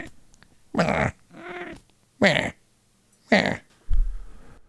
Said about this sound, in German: Ja, die Katze ist auf jeden Fall auch mit dabei.